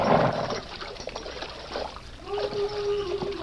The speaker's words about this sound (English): Well, we're in luck. There's water here. Ah, it's running water, too. Good and cold.